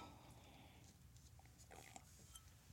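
Soft slurping and wet swishing in the mouth as someone sips and swishes beer from a glass during a beer tasting, with small smacking clicks over a low, muffled rumble and no talking.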